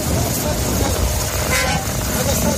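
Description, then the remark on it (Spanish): Humanitarian aid trucks loaded with food, water and medicine cross the border from the Egyptian side, horns honking loudly over a dense rumble of passing heavy vehicles, the tooting blending into continuous roadside traffic noise with indistinct voices in the background. “Poco a poco iban pasando esos camiones, aunque, eso sí, de momento Naciones Unidas solo ha podido confirmar la entrada de 20, llenos de comida, de agua y de medicinas”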